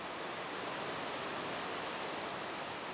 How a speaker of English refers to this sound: You're hearing water rushing over the Maple River Dam, which holds back nearly 43 acres of water in Lake Kathleen. The dam is about 18 feet high and in rough shape.